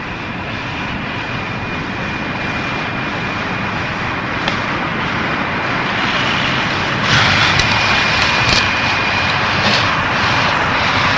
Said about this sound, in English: It's funny that in a place like this, the sound of the traffic probably never stops. Kind of a whoosh and squeal. Kind of, it's almost a moan. But it goes on and on.